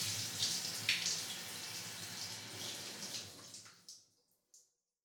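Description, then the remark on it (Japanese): Running water rinses off soap foam in a steady rush for about four seconds, then cuts off, leaving a couple of last drips and a small splash. “うん、泡全部流し終わったかな。”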